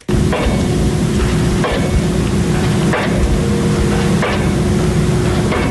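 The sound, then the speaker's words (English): Heavy construction equipment roars with a steady low engine drone, punctuated by loud, regular metallic bangs about every second and a half, on bottomland near the Ohio River in Jackson County, where a new titanium plant is being built. No voices. “The sounds of heavy construction equipment puncture the air on bottomland near the Ohio River.”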